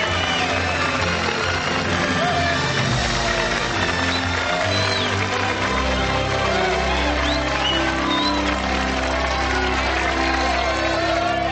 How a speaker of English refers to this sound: Everyone applauds.